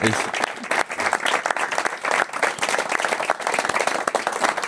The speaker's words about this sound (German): Ja. Großer Applaus.